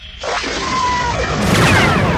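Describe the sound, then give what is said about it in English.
A loud, dense roar of noise with a brief high zap cutting through it, then a bigger rumbling blast swells near the end, forceful like laser fire followed by an explosion: lasers flash down into a forest and strike a squarish bunker about 15 meters on a side, a border sensor installation, which erupts into flaming explosion. “He saw his lasers and Tycho's flash down into the forest below, and some hard target erupted into flaming explosion.”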